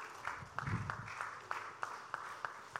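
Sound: audience clapping hands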